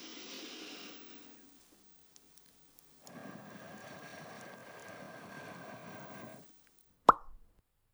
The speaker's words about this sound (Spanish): Una burbuja, a ver. Dos burbujas. Tres burbujas.